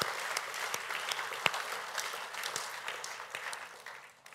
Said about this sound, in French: Je pense qu'on peut applaudir tous ceux qui ont participé. Merci beaucoup.